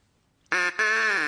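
A loud, nasal duck quack, apparently imitated by a human voice: two drawn-out honks close together after a short silence, the second held longer and fading slightly at the end.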